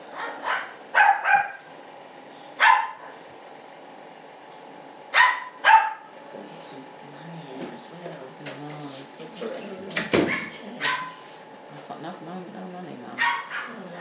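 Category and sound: animal, dog barking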